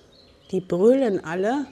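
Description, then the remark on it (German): A flock of sheep on a green meadow bleating as they come running up when a man walks onto the sheep pasture: a short call followed by two long, wavering bleats with a nasal, quavering tone, fairly loud and without any talking over them. “Nur damit ihr das Geblöck im Hintergrund einsortieren könnt.”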